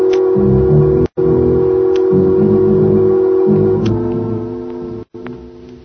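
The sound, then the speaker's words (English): A telephone being dialed to phone the police: a run of steady electronic tones in short segments, with a couple of brief gaps, fairly loud, and no one speaking. “First, we phone the police.”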